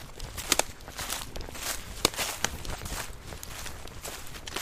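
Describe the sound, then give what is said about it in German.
Footsteps crunch and rustle through forest undergrowth at a steady walking pace, with crisp snaps of twigs and leaves underfoot and a soft, continuous background hiss. “Wir gehen jetzt mal ein Stück durch den Wald und lauschen, wie sich so ein Wald anfühlt.”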